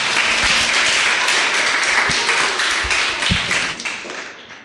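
A group of children claps to welcome a visiting guest who works with the government of the Canary Islands, in a dense, steady burst of applause, loud throughout and tapering off at the end, with no talking.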